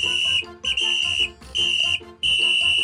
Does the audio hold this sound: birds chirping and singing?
no